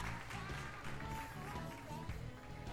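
A steady wash of audience applause, many hands clapping at once in a dense, even patter, with a voice faintly audible underneath.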